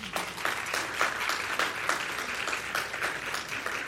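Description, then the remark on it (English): An audience at the LDSHE Enrichment Seminar applauds the cheering squad steadily, a dense wash of many hands clapping at once, with crisp individual claps popping out of the texture at a fairly even level throughout. “And so let's give our cheering squad a round of applause.”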